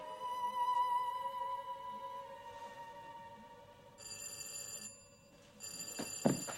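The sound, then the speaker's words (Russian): An electric doorbell, its button pressed in, rings in long, insistent bursts, a bright metallic jangle with steady high overtones, broken by short pauses, loud and without any voices. “Боже мой, что это за звонок?”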